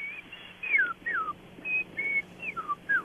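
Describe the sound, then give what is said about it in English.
A person whistles an imitation of an Eastern Meadowlark's song: clear, plaintive slurred notes, several gliding downward, in a short steady series over a quiet background. “the Eastern Meadowlark is just a plaintive little whistle, and you just hear that.”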